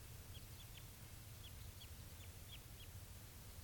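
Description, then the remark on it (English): A wild bird, identified as Type 2, calls in response with a series of short, high, downward-slurred chirps, about eight in all, spaced irregularly over a steady low rumbling background. The calls are fairly faint. “That's a wild bird responding with 387.”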